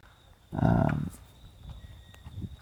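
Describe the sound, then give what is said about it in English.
A colt being walked around a sales ring at a horse auction gives a loud, half-second blowing snort, followed by a few soft, scattered hoof thuds on a muffled surface. “So the better horses have a bit more quality.”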